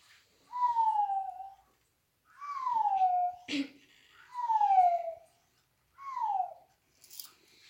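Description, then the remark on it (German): An owl calls four times, each a clear, falling, slightly hoarse note about a second long, evenly spaced and alone, with a brief sharp click between the second and third calls. “Eine Eule ruft.”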